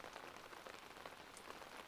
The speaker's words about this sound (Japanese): 雨はただ、無情に傘を打っていた。